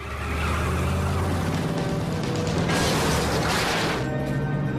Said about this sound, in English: A lightweight metal gate is locked across a stretch of road. Madeline turns to look at Sam. Madeline swings the van off onto the closed road and smashes through the gate.